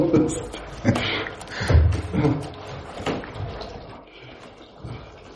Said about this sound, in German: Geht auf die Klospülung.